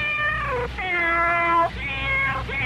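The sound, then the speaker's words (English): A cat meows three times in quick succession in a Meow Mix cat food commercial, each call long and drawn out with a bright, tonal quality, loud with no talking. “There you have it, straight from the cat's mouth.”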